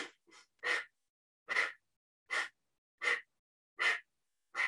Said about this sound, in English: The emphasis is on the inhale and it's just like a casual exhale, where the ego eradicator breath is an emphasis on the exhale and then a natural inhale.